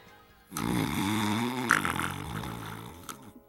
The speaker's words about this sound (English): Snoring? Hey, you in there, wake up.